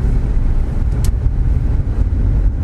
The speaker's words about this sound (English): I wonder if people can tell by the sound of the car or what the car is. That'd be impressive. Yeah. Send in your suggestions. It's a Corsa.